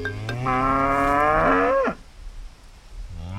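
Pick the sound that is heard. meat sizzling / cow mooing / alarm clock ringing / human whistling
cow mooing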